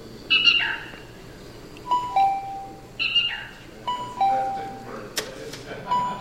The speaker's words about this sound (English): And I want to spend the last few minutes playing a tape of one bird song here that's endangered. It's called the California Black Rail.